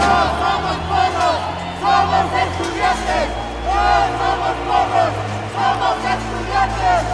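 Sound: protest crowd chanting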